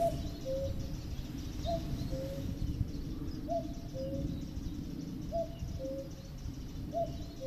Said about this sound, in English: But I think, is there another sound? Can you hear that? Oh, that's the cuckoo.